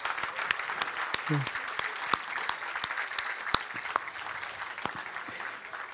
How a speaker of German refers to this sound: Wer möchte gerne? Eine Meldung. Gerne nach vorne kommen. Ein Applaus.